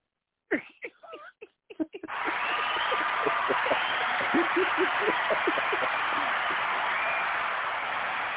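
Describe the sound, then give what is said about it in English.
A few short shouts give way to a sudden, steady roar of crowd cheering, with scattered claps and whoops popping through the dense noise until the end. “Yeah, where's my crowd?”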